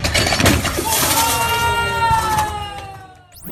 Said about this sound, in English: Along the way, she went viral for an Instagram video of a failed snatch attempt that sent a 235-pound barbell smashing through a plate glass window. I can't show you the video in a podcast, but I think you'll find the audio really does the trick.